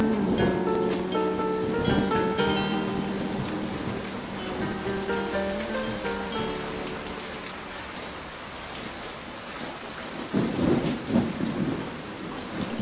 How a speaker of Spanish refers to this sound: Aunque llovía mucho